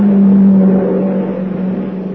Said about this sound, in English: Here comes the car.